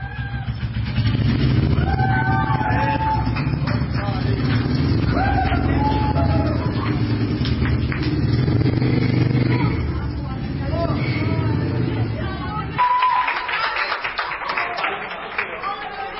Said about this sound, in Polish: Przenosimy się jeszcze na chwilę na Leszczyńskie Gromonowo, na to zimowisko, niedźwiedzie zimowisko zorganizowane przez parafię Maksymiliana Kolbe. Na pewno dla wielu niespodzianką był warkot motocykla żużlowego na szkolnym korytarzu.